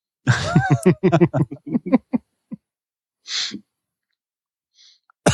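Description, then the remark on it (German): A man gives a run of short, rough throat-clearing and hacking coughs into the mic, followed after a pause by one breathy burst and a couple of faint sounds. “Da hat er schon eine Räuspertaste. Und benutzt sie nicht, ne?”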